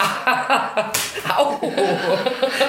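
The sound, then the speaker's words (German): A single sharp, crisp slap lands about a second in on a person sitting in front of a microphone, surrounded by soft chuckling and voiced sounds that continue throughout. “Ich sitze hier total konzentriert vor dem Mikrofon und auf einmal klatscht es. Hör auf, mich zu hauen.”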